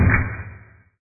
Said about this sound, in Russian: Гэндальф силой ударил жезлом в ее кованые створки.